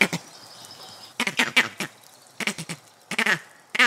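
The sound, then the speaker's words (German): A green monkey's snake alarm call, given when a snake approaches: loud, harsh chattering bursts in several quick clusters, with brief pauses between groups and no talking. “So rufen sie, wenn sich eine Schlange nähert.”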